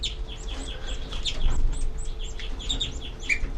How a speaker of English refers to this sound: These are the babies giving begging calls.